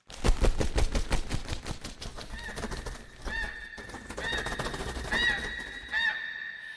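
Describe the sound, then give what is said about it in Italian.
Two dice for the Game of the Goose board game are thrown, rattling and tumbling in a quick burst of dense clicking for about two seconds and landing on two threes, then several loud, nasal goose honks repeat over a steady tonal background. “Ogni ostacolo dovrai oltrepassare, ma servono i dadi da lanciare.”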